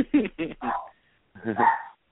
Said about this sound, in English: Who's got the dog? All right. Leave my dog alone.